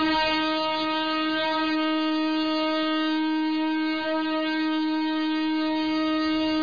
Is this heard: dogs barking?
no